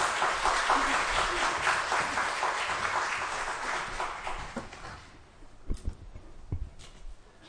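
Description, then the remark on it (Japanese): A church audience applauds to welcome a guest pastor, steady dense, overlapping claps for about five seconds, then the clapping fades out, leaving a few scattered soft knocks and thumps. “それでは先生を拍手を持ってお迎えしたいと思います。”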